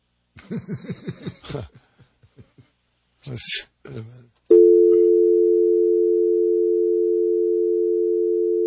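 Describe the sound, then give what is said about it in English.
Brief voices and laughter give way to a loud, steady telephone line tone from a phone that is not working, humming continuously and unbroken for the last four seconds and staying level. “That phone don't work.”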